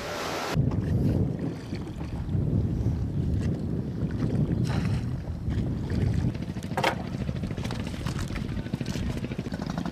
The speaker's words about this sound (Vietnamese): Để kịp về trong ngày thì chuyến đi phải bắt đầu từ lúc tờ mờ sáng. Những chiếc ghe nhỏ phải di chuyển từ 12 đến 14 hải lý mới đến nơi.